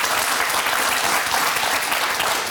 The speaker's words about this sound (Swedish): Han får en applåd av publiken för det här.